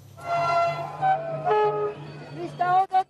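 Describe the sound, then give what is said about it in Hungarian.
The horn of the historic Székely Gyors pilgrim train, bound for the Csíksomlyó pilgrimage, blares in long, steady tones over the low, continuous rumble of its engine as it arrives in Székelyland, with voices from a welcoming crowd mixed in. “Minden évben ilyen lelkesen fogadják a zarándok vonatokkal érkezőket a Székelyföldön.”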